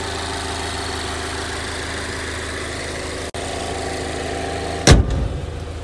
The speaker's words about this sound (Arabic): هذه مكينة بالعرض 2.5 تنفس طبيعي، 180 حصان، 250 نيوتن متر العزم.